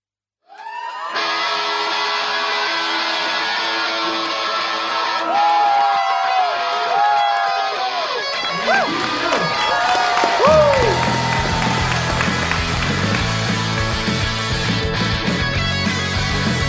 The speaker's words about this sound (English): I'm really excited about tonight's guest. As you can see, she is sitting here with us right now. Give us a huge round of applause for our guest tonight,